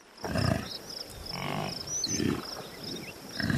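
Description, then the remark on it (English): Deep, rumbling grunting roars from buffalo ambling across the open South Dakota prairie and grazing on grass, three or four low guttural bellows in a loose rhythm, with a faint outdoor background hiss. “Turkeys gobble, cows moo, chickens cluck, and buffalo? Well, buffalo do this.”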